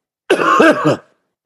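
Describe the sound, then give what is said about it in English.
A single loud bout of coughing and throat clearing, a raspy, voiced burst lasting under a second, followed by silence. “Yeah, I'm going to start coughing again, but we'll just play through.”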